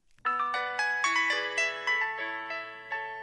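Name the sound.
cell phone ringtone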